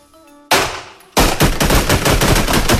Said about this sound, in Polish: Nie. Nie, to albo spłuczka jest, albo krzesło. Nie, proszę pana, no to wyraźnie słychać strzały.